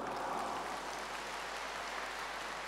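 An audience applauds steadily, a dense wash of many hands clapping at an even level from start to finish, with no voices over it.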